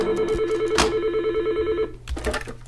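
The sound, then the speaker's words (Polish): A landline phone in a reportage editorial office rings insistently with a steady, warbling electronic trill for nearly two seconds, fairly loud, then cuts off into a few clattering handling noises. “Koledzy mieli pilne nagrania, mi zawiesił się program montażowy, a cichy zazwyczaj telefon stacjonarny natarczywie dzwonić.”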